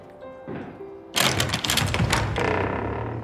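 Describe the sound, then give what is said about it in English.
A large iron door knocker at the gatehouse of a large house strikes in a loud burst of several heavy, clattering raps after a quieter, humming start, with a ringing, rattling wash lingering afterward. “Approaching the gatehouse, there's a large iron knocker.”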